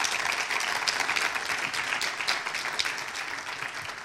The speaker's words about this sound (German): Und wir heißen sie mal mit einem Applaus willkommen.